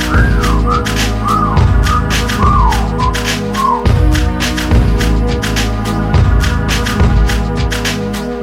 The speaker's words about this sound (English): Damn, shorty look good and I'm thinking about getting at her. Okay, time to whistle at her.